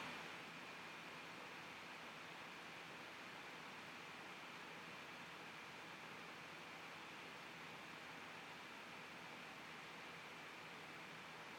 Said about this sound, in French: Par la nature verdoyante et abondante. Le bruit du ruisseau vous apaise.